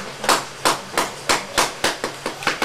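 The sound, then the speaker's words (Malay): A hammer strikes about eight times in a steady, fairly quick rhythm, each blow a sharp, bright knock that fades briefly before the next. No voices are heard. “Nih buat palu.”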